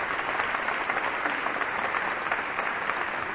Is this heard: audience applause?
yes